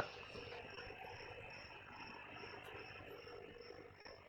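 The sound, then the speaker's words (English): Crickets chirp in a steady, rapid, pulsing trill that repeats throughout, set against a constant low rumbling background noise, with no voices present. “Who's got the crickets turned on?”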